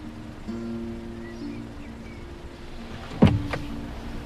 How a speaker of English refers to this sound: April gets out of the car and goes to the door.